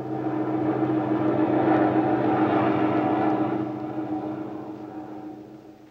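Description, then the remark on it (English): A steady, low airplane engine drone of a lone plane in flight hums continuously, heavy, with a layered mechanical tone that eases slightly quieter toward the end. “There's a lone unidentified plane over your area.”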